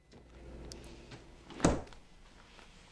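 household object, refrigerator door closing

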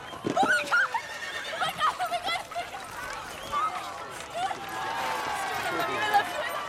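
animal, racehorse whinnying

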